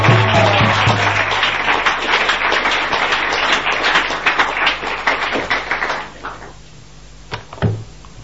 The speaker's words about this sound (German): Ich möchte euch bitten, einen rauschenden Applaus